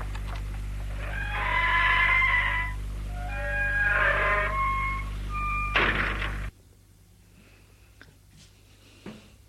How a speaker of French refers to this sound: Ajoute sur la tige un rayon de fente et de trou, puis met la clé dans la serrure. Et la porte s'ouvre.